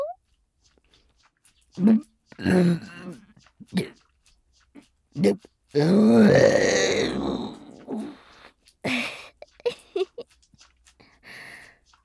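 burping

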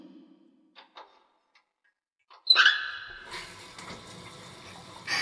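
shower water running

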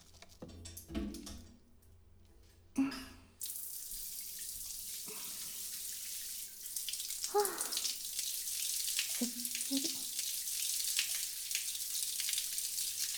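shower water running

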